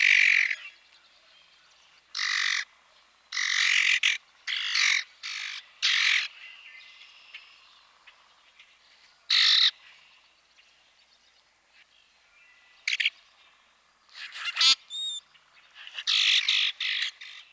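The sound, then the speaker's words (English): A common grackle gives a loose series of harsh, grating chack notes and scratchy metallic squeaks, loud bursts separated by short pauses, with a few high thin squeals near the end. “Our next species is the common grackle.”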